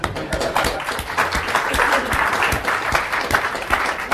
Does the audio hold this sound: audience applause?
yes